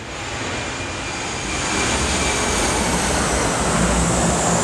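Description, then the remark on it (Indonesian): A loud, steady roar of a large airplane overhead, one of many frequent flights, a broad rushing noise that swells slightly and stays intense throughout, with no one speaking. “Gua rasa sih kalau kayak pesawat-pesawat gitu gede banget ya.”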